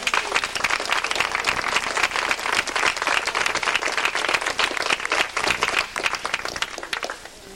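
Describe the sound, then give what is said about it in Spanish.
Sustained audience applause, a dense wash of many hands clapping at once, loud and steady for several seconds before easing slightly at the end. “¡Viva! Un aplauso.”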